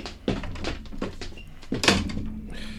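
A drawer slides shut with a run of quick wooden knocks and rattles, ending in a firmer thud and a faint low hum afterward.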